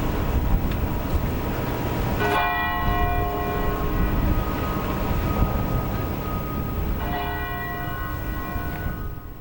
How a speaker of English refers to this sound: And just minutes ago, at 2:49 p.m., the precise time that the first of the two bombs detonated, church bells tolled, and the city came to a stop to observe a moment of silence.